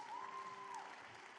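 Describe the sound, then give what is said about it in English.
A church audience claps in steady, dense applause for the worship team and production teams, filling the whole stretch, with a sustained high whistle-like tone sliding through the middle before fading. “Come on, give a round of applause for our worship team and our production teams.”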